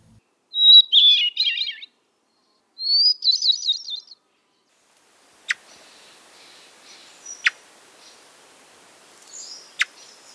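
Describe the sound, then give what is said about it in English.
A thrush sings at high elevation in the high country: two bright, fluting phrases spiral upward in quick warbling notes, each about a second long, followed by quieter calls and a few sharp clicks against a still mountain background. “And equally as lovely is our next and last of the thrushes.”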